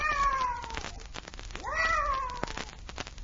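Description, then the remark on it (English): A cat meows twice in drawn-out, wavering cries, the first starting right away and the second rising then sliding down, fairly loud with no talking. “I wonder what that cat was doing here.”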